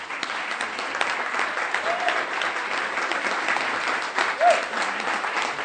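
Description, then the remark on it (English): Sustained applause from a sizable audience in New Hampshire for Councillor Burton, a dense steady wash of clapping hands for several seconds with no pauses, a faint whoop or cheer rising briefly near the end. “You can't applaud very long, people.”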